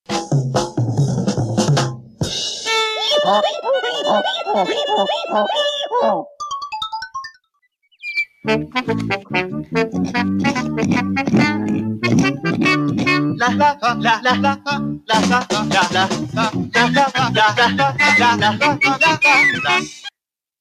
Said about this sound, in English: Because this is not a banger. What? It's fucking Yankee Doodle. What do you expect? I expect more.